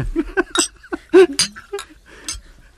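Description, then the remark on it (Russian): Several bright, fairly crisp glass clinks ring out at irregular moments, mixed with murmuring voices, as glasses are touched together in a toast. “Давайте чокнемся еще. Чокнемся все, давайте.”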